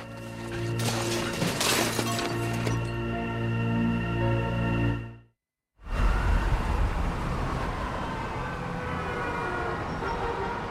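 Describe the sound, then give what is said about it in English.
A sudden loud clattering crash of framed photos falling to the ground and breaking glass, as a woman rips off a sheet covering a mural, rings out early over a steady droning, siren-like tone, then a brief silence gives way to a busy, rumbling ambience. “She rips off the neck sheet, sending the framed photos crashing to the ground, then looks at the mural with a smile.”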